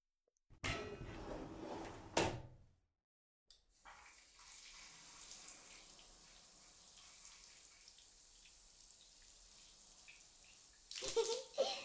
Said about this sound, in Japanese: ほら、まずはシャワー浴びよ。